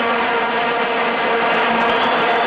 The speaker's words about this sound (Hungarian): Mézümmögés. Vuvuzela. Az oroszlán barlangszót el lehet felejteni, a dél-afrikai stadionok atmoszférája a méhkas élményt kínálja.